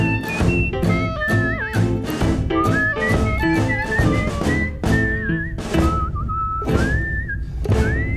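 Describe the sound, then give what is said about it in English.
Someone whistles a bright, wandering melody over steady, rhythmic thumping beats, the tune sliding between notes and staying clear throughout. “Hi-ho, the sourdough whistled and worked.”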